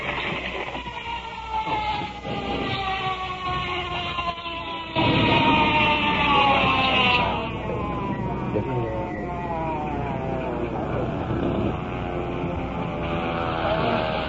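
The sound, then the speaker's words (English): An ambulance siren wails in the distance with rising and falling tones, growing louder as it approaches. Steady background noise runs beneath it. “In the distance, the ambulance.”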